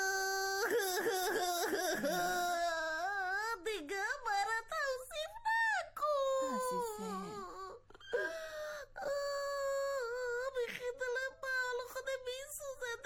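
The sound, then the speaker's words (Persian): A voice imitates a worn shoe crying, with drawn-out wailing and whimpering in wavering pitches that rise and fall for several seconds, loud, broken by short sobbing gasps. “گریه نکن گریه نکن کفش جان عزیزم گریه نکن.”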